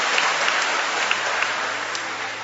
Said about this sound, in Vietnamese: Chúng ta cho một tràng pháo tay hoan hô hai thánh tử đạo này.